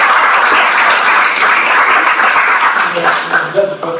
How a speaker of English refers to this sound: And there is a gentleman here. Who has come to me? Hey, give him a big hand clap. Amen?